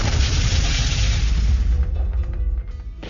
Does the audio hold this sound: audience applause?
no